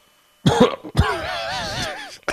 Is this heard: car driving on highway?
no